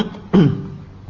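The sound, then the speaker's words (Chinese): A single short, rough cough from an audience member bursts out once, moderately loud, then trails away into faint background noise. “我刚刚听到很多咳嗽声音，是大人咳嗽还是小孩子咳嗽呢？”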